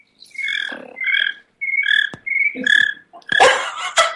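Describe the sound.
A voice imitates cricket chirps with the mouth, making a string of short, bright, squeaky chirps in irregular bursts, fairly loud, with no talking.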